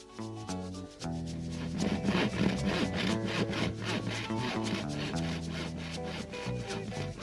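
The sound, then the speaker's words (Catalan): A ball is sawn into three pieces with a saw: rapid back-and-forth sawing strokes rasp in a steady rhythm, carrying a ringing, tonal edge that shifts pitch, fairly loud and continuous with no voices. “Primer el cuc va donar una mossegadeta a la bola i després va encerrar-la en tres trossos.”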